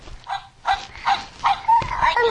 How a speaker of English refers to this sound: Dog sound. Dog sound,